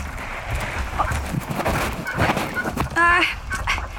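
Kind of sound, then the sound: bird, duck quacking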